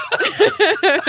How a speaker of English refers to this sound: Stop. I actually am coughing.